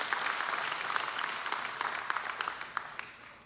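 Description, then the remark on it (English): An audience claps for Jesus, the Savior, during a sermon, a dense, steady wash of applause with scattered sharper claps standing out, gradually thinning and fading toward the end. No one speaks. “Can we clap for the Savior who cleans us of every sin?”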